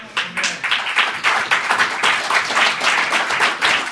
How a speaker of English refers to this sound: All right, look, if we're going to clap, let's all clap. Let's try it one more time. If we're going to clap.